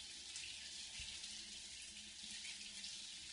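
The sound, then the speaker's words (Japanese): Hot water pours steadily from a tap, rinsing lather from hair, in a continuous, hissing rush. It is fairly loud, with faint low thuds underneath and no one speaking. “お湯が流れる。”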